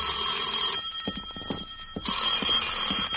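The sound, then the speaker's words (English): A telephone rings at 10 o'clock in two bursts of a rapid bell trill, separated by a short pause, loud with no voices present. “At 10, my phone rang.”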